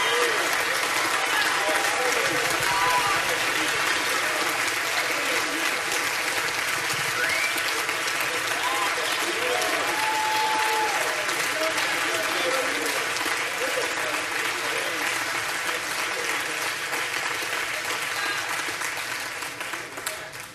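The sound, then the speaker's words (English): A large church audience claps and cheers loudly and continuously as a praise break for God, a dense wash of applause with scattered shouts and whoops, holding steady for about twenty seconds before beginning to fade. “Now, the rest of our text, Paul says, you can do more than clap.”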